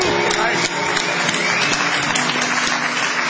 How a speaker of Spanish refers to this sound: Y nos ponemos serios para aplaudir al licenciado pentacadémico Ale Dolina.